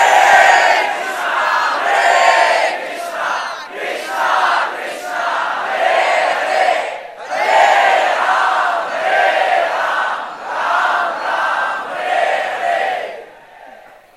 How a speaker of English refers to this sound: All there is Krishna, Sri Radharani, and all the devotees chanting the holy name.